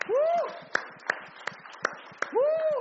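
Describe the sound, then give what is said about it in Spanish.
Steady, evenly spaced handclaps ring out over a murmur of voices, with a loud, rising-and-falling vocal cry at the start and again at the end, as a gathering applauds the King of Kings right after a prayer. “Denme un aplauso al Rey de Reyes.”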